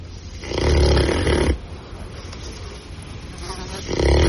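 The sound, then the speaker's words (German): A pig snores in two loud, rumbling breaths, one long snort early on and another starting at the end, with a quieter wheezy inhale between them, with no talking. “Ja, es war ein Schwein.”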